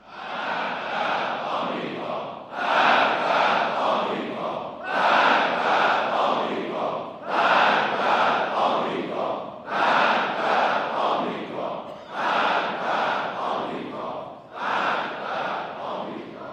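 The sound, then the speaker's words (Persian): A large crowd chants a slogan against America in unison, loud rhythmic bursts of shouting repeating roughly every two and a half seconds with brief dips between each cry. “گفت هر چه فریاد دارید بر سر آمریکا بزنید.”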